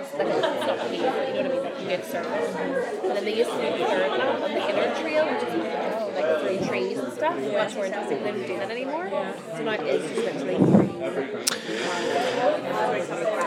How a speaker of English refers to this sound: there's a whole big crowd here at the minute. Here we're in the church cafe area.